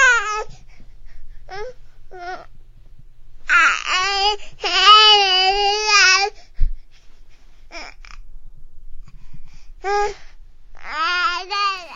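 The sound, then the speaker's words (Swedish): A baby babbles and coos in bursts of high, wavering vocal sounds, some drawn-out and sing-song, with short pauses between; fairly loud, with no adult speech. “Ja, vad har en bebis med den här stationen att göra?”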